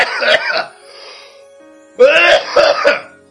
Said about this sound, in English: And because I had just smoked, I coughed.